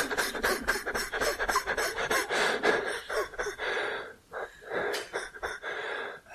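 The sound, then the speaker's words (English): Heavy breathing, air drawn in and pushed out in quick rasping pulses, then a few slower, deeper gasps. No one speaks. “I just get this figured out and then I go back to breathing in out.”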